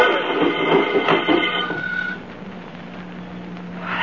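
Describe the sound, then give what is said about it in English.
A car with its brake released and given a push rolls down a downgrade picking up speed, with a steady rumbling, grinding roar and a faint mechanical whine, easing slightly midway before swelling again at the end. No one speaks. “Look how fast it's picking up speed on the downgrade.”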